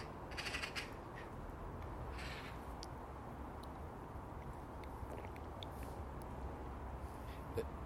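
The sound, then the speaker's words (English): Crows caw a few times in the morning in harsh, raspy bursts, a cluster near the start and another a little later, over a steady hiss of background noise with no talking. “Crows seem to love mornings like this, and the crow even louder and longer.”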